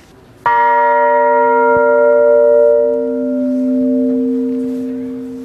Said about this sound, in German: Also das Spannende ist, dass der Glockenklang an sich aus verschiedenen Obertönen besteht. Hier zum Beispiel die Glocke hat den Ton B.